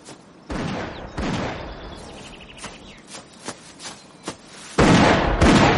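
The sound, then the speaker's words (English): Two loud shotgun blasts ring out as birds are shot at after luncheon, followed by a series of sharper, quieter cracks, then a sustained burst of harsh, noisy rushing sound at the end. No one speaks. “So after luncheon, we went out to massacre a few more unfortunate birds.”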